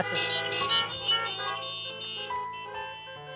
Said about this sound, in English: If you believe it, honk your horns.